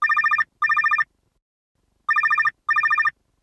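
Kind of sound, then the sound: household object, cell phone ringing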